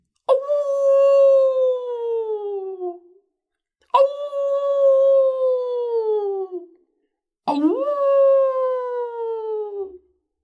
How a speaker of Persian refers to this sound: شیر گوشهایش را تیز کرد و گوش داد. سپس دندان قریشه‌ای کرد و گفت: این صدای شغال است. شغال‌ها جانوران به درد نخوری هستند و برای هر کاری زوزه می‌کشند.